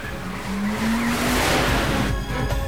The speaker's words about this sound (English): Slamming on his brakes, he puts his vehicle in reverse, turning it around, then gives chase.